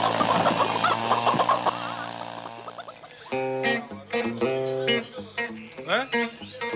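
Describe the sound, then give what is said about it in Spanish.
A loud, steady engine buzz runs for about three seconds, like a chainsaw revving, then gives way to shouting voices with rising and falling pitch. “¡Me han sacado la motosierra!”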